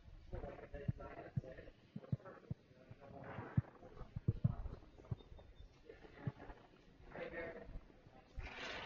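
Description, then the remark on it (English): The racehorse Keen Ice, trained by Dale Romans, walks by on the track at Belmont Park in the morning, its hooves making a steady, uneven series of soft thuds, with indistinct voices murmuring in the background. “Keen Ice for trainer Dale Romans walking by us the wrong way, expecting him to turn and do a little bit of work here this morning.”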